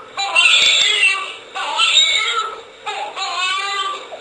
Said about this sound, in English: Oh, it's just a screaming child. You hear that all the time, right? Right. You know, folks, this is the 21st century. This is out of a medical video.